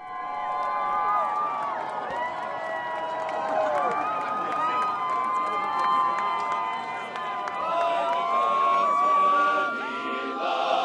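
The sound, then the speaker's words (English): Hundreds of people gathered in front of the Supreme Court cheer and whoop continuously over its decisions on DOMA and California's Proposition 8, with many overlapping excited voices rising and falling together, loud and sustained throughout. “Hundreds of people gathered in front of the Supreme Court for the decisions.”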